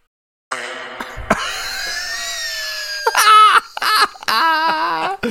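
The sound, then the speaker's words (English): A fart made into a phone and broadcast over a Walmart store intercom: a long, strained, squeaky blast that wavers in pitch, followed by several louder, sputtering, buzzy bursts, all with a tinny loudspeaker quality. “there's a lot of people who like will stroll into Walmart and grab a phone and just fart in it.”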